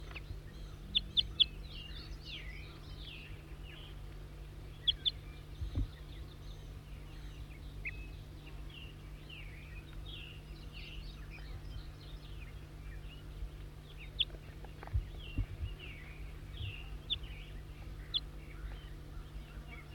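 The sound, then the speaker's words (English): Wild birds call throughout in bursts of short, high chirps and tweets, fairly soft and irregular, over a constant low hum with no one talking. “Wild bird.”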